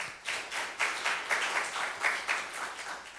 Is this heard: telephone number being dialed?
no